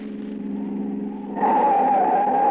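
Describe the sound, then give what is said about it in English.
A car engine rumbles, then breaks into a loud, sustained tire screech as the vehicle skids to a stop. No voices are heard. “All right, Huey, get out of that car.”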